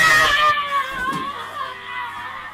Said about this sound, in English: None noticed me until I let out a scream.